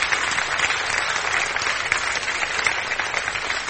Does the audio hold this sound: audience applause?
yes